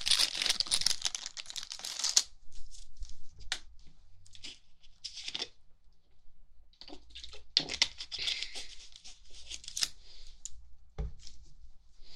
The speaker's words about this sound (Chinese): 让我穿下这个干净的白大褂。